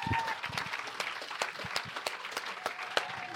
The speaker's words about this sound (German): Leute, Applaus für so viel Mut.